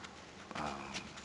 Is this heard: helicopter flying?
no